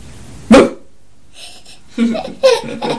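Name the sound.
small dog barking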